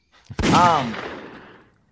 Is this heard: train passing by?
no